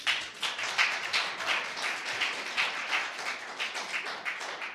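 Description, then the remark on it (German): A crowd applauds steadily to welcome a guest speaker, many hands clapping in a dense, crackling wash with slight rhythmic swells, fairly loud and sustained with no voices over it. “Lasst sie uns aber herzlich begrüßen mit einem kleinen Applaus.”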